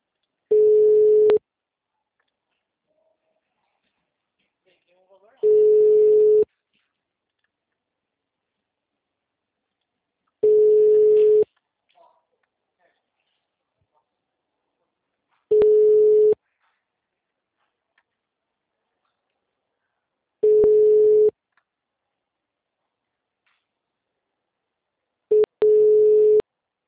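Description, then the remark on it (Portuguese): Ringback tones of an unanswered phone call: a steady mid-pitched beep about a second long repeats every five seconds, six times, with silence between and no one picking up. “Povo que não atende telefone, vai tomar no nariz.”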